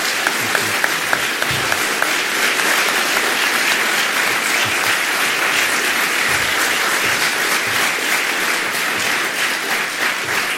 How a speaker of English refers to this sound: I would like to say to both of our candidates, I really appreciate and honor the work you do, and I would like the audience to give them a nice round of applause.